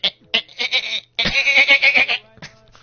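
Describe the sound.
A voice imitates a dolphin's squeal: a few short, high-pitched squeaky bursts, then one long warbling squeal, ending with a faint trailing squeak.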